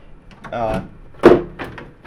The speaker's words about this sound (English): I'm gonna open the case.